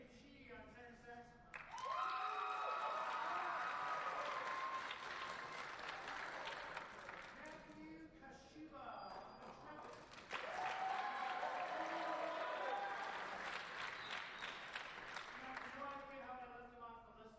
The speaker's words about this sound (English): Remember, they're not booing. They're chanting Luke.